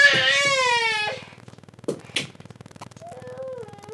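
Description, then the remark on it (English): A small child cries loudly in a long, wavering wail that fades out, followed by a couple of sharp sobbing gasps and softer, lower whimpers toward the end. “Sorry, we have a small child.”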